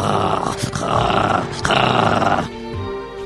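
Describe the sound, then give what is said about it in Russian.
A voice imitates a newborn's first gurgling, wheezy growls at birth on 20 February 1967: three rough, rattling bursts in quick succession, followed by a quieter, strained rasp trailing off. “И вот оно, 20 февраля 67-го года, в семье простого механика и домохозяйки раздаются мои первые булькающие хрипы и рычания, да.”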